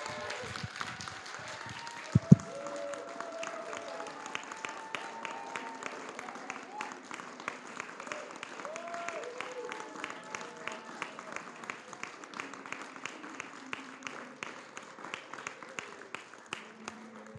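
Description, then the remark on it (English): A sustained, loud round of applause from a crowd, steady dense clapping lasting the whole stretch, with scattered voices calling out and cheering underneath. “So now, last thing we're going to do is we want to make them feel how special they really are by giving them a loud round of applause.”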